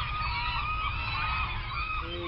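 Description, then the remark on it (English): A dense chorus of seagulls calling over one another, with overlapping squawks and cries that keep up steadily throughout, fairly loud over a low rumble of background noise. “Luckily, you can look it up on the internet or just wait for the seagulls to tell you.”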